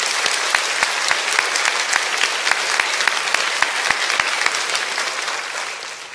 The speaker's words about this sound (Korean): 한번 뜨겁게 박수로 격려해 주시면 감사하겠습니다.